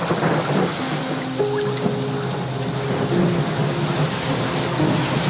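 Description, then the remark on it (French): Heavy rain pours steadily in a dense, hissing wash while deep thunder rumbles low underneath, a continuous stormy roar with no voices; the storm in the TV series La Promesse, recreating the 1999 storm. “On parlait de la tempête, donc qui est vraiment un personnage de la promesse.”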